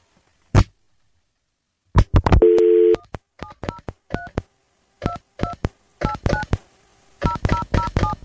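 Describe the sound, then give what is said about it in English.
A rapid series of short, clear telephone keypad tones beeps out a phone number in quick bursts as someone redials an interview guest whose phone died, preceded by a click and a brief steady tone, with no one talking. “Something's happening with his phone, so I'm going to try to call him again.”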